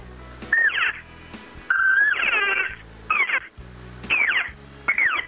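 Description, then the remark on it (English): Five short, high, whining elk cow calls blown on an open reed call in a hunting call demonstration, each a nasal mew that rises and falls in pitch, separated by brief pauses. “If I take an open reed call here, it's the same thing.”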